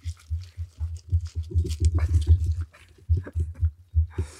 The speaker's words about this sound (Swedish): Nu kommer hunden i full jävla fart. Akta sladdarna. Hej, vill du vara med? Oj. Det är kablar här.